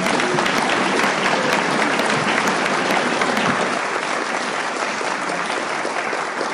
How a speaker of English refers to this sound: Let's give Marianne one more round of applause.